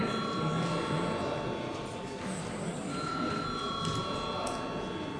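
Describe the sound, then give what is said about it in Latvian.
In a Latvian Saeima session, a continuous electric bell rings steadily for several seconds before a secret-ballot vote, its sustained metallic tone held at an even level over a low murmur of voices and shuffling. “Lūdzu zvanu.”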